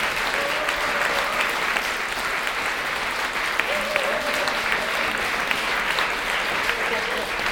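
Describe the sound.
Sustained audience applause for a pianist on stage from North Rhine-Westphalia, a dense, steady wash of clapping that holds at an even loud level throughout, with faint voices mixed into the crowd noise.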